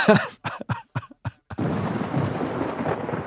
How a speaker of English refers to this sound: It's a little biblical flood thunder.